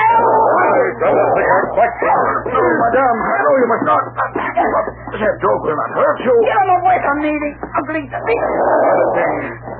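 animal, dog growling and snarling

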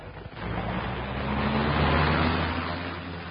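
vehicle, car driving off

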